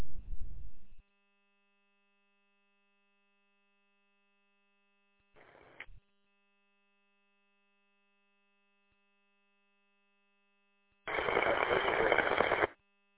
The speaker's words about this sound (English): You had to repeat the key up, the press was all static, couldn't tell anything.